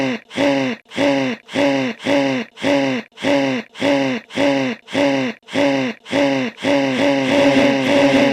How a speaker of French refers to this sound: Alors, pour vous donner une image, on a fait un petit montage de cette respiration